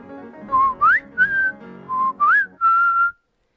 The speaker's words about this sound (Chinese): 老人对着果园吹口哨，而几乎就在同时，空中传来了小小的身影，那只红胸的小鸟正朝他们飞来，而且它就停在老园丁的手上哦。